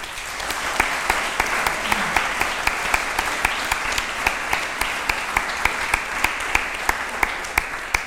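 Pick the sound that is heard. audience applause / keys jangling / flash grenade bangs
audience applause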